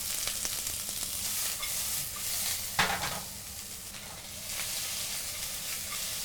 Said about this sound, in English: So we got the oil hot, nice and hot. So we'll go in with our garlic and onions. Yeah, the oil is like smoking right now. And carrots.